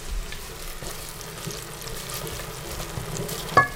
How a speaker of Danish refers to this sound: Ej, det dufter godt af rød karry, der lige nu syder ned i gryden med løg og hvidløg og ingefær.